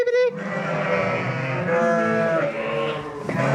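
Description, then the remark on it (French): A flock of about 90 ewes and their lambs bleats together during lambing season, answering a herder's call, in a dense, overlapping chorus, many voices calling at once with wavering, nasal cries that continue throughout. “Faut savoir parler moutons.”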